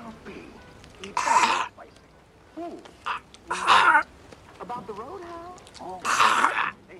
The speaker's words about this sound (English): Jack and Jill stare, mouths agape, and dip into their big bags of popcorn at the same time. Gary watches as they unconsciously mirror each other. Jack and Jill try to cough up their popcorn.